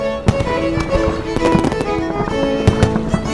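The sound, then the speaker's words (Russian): Fireworks, hundreds of lights shooting up from a ship at sea at night, burst and crackle in a rapid, irregular string of sharp pops and bangs, several louder cracks standing out, over a steady humming tonal backdrop with no voices. “Матросы плясали на палубе, а когда вышел туда принц, кверху взвились сотни огней, и стало светло, как днем.”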